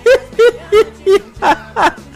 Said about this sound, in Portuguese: Eita, bebê, chora, chora que nem uma sanfona. É o menino de papai, é? É o menininho de papai.